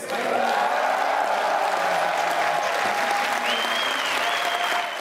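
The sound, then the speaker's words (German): Loud, steady applause fills the whole stretch, a dense crackling roar of many hands clapping, with excited cheers and a few high whoops rising above it toward the end, as Anja Karliczek announces Berlin's win in the Excellence Strategy for the joint application of Free University, Humboldt University, Technical University and Charité. “Als Anja Karliczek den Berliner Sieg verkündet, bricht der Jubel los.”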